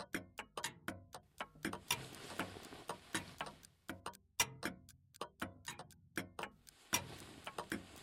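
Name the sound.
many clocks ticking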